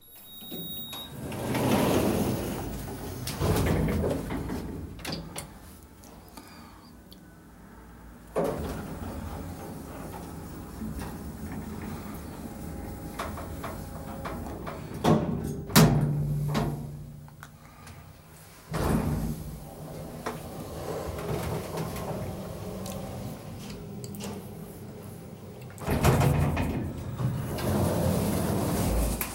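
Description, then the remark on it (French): Cabin sliding doors close and open several times in a row, each cycle a rumbling mechanical glide ending in a sharp thud, with no one talking. “Fermeture des portes. Ouverture des portes.”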